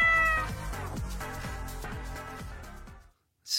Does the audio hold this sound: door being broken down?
no